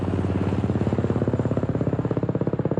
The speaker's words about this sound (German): Es sind Tage, in denen es ungewöhnlich viele Hubschrauberflüge vom Basislager gibt, berichten Bergsteiger in sozialen Medien.